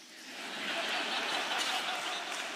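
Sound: audience clapping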